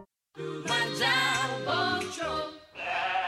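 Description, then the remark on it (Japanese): Sheep at a farm bleat loudly, one long wavering bleat followed after a short pause by another, with no talking. “こんなに羊が 走る。”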